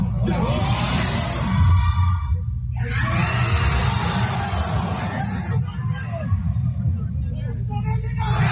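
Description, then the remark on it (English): Loud, excited crowd screaming and yelling fills the scene continuously as a player announces which school he will attend, with a rumbling low-end backdrop and voices blending into a chaotic roar. “Somebody was really excited, just judging by the screams that I'm hearing in the background.”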